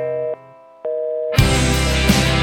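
A phone line signal for a switched-off mobile plays two steady electronic tones, each about half a second with a short pause between, before loud full-band music abruptly takes over.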